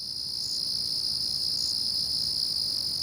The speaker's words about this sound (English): the wood crickets arrived with some plants from the New Forest